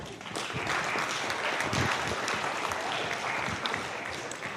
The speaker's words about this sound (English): It's a 50K event in from Adelaide. 50K. Give him a clap.